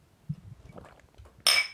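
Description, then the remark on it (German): Glasses clink together in a toast before drinking: one bright, ringing chime near the end, loud, after a stretch of soft low rustling and quiet background murmur. “Lass mal hier trinken, anstoßen.”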